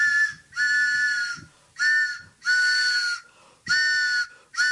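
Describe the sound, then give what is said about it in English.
A train whistle, used as the pitching train sound for the WBAI New York program Back of the Book, sounds in five loud, breathy blasts, each about half a second to a second long with short gaps between, its steady chord-like tone wrapped in airy hiss. No one speaks. “Oh, it's the WBAI Back of the Book pitching train.”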